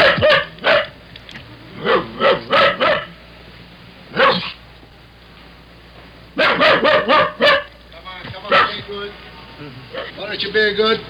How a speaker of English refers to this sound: And I listened to a doorman talking to a barking dog locked in a car.